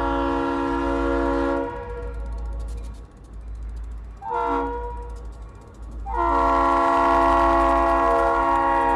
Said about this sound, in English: Train engineers are required to blow their horns 1/4 mile before each roadway crossing. It's the same pattern each time, two long blasts, followed by a short, and then another long one.